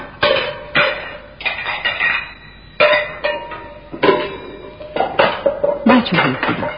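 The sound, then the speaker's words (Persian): Dishes and pots crash and clatter repeatedly in loud, irregular bursts, with metallic clanks and rattling as an angry man flings the kitchen dishes this way and that; some faint voice-like sounds mix in. “بله، بازم بنا کرد ظرفای آشپزخونه رو این طرف و اون طرف پرتاب کرد.”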